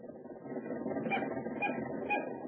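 A car engine being started turns over with a steady mechanical churning, marked by grinding pulses about every half second. It stays fairly loud throughout, with no voices.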